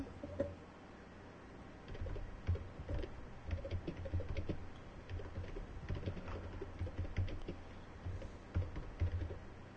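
Steady typing on an old computer keyboard, a continuous stream of sharp, uneven clacks and taps with clustered bursts of keystrokes, no voices, just the busy rattle of keys.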